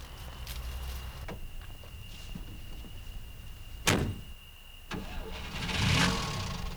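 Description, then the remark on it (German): A couple of sharp door-like clunks as someone gets into a car, then the car engine cranks and catches near the end, rising into a rough idle over a steady background hum. No one speaks. “Der Außerirdische steigt in ein Auto?”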